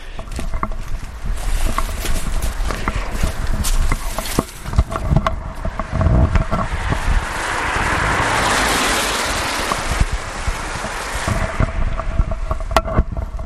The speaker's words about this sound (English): The car's coming down.